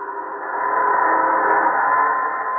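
A steady, sustained train whistle or horn blares loudly for a few seconds, holding one bright tone with a broad rumbling wash beneath it and no pauses, from a train carrying food across the plains of Manchuria down to the seaports on the Yellow Sea.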